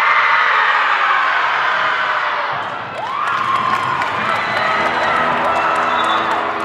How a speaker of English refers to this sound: Before the opening buzzer, the Jaguars do a breathing exercise, a collective roar to get their nerves out.